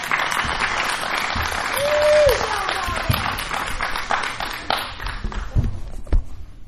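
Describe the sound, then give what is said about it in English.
An audience applauds steadily to welcome a guest onto the stage, dense clapping filling the whole stretch at a moderate level, with a brief whistle and some chatter and shuffling mixed in. “So if you would help me welcome her to my stage or to the stage.”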